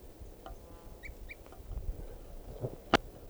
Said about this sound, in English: Oh, I see it now. I think there may be two birds.